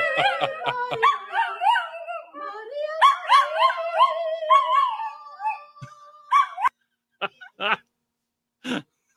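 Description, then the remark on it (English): A dog howls along to a song in long, wavering, melodic notes that slide up and down in pitch for several seconds, then breaks off into a few short, sharp yips. “Well, the dog did a better job.”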